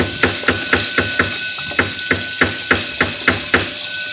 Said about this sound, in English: I'll try rapping again.